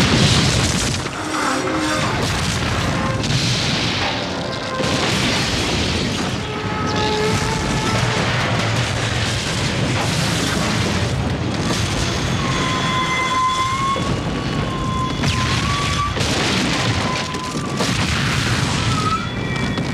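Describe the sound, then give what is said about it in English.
A loud, continuous roar of a runaway train crashing and exploding, with heavy booming impacts, grinding metal and high screeching squeals layered over dense rumbling, filling the full twenty seconds. “here's the big moment of Atomic Train, when the runaway title vehicle finally reaches its destination”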